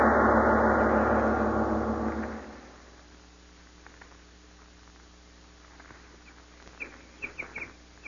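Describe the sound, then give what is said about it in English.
A loud, steady roar fades away after a couple of seconds, leaving near quiet before several short, bright bird chirps sound in quick succession toward the end, amid green hills and trees on Earth. “Green hills, birds, trees? It is the earth.”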